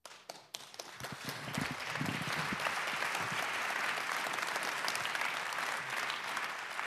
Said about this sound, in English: So again, another round of applause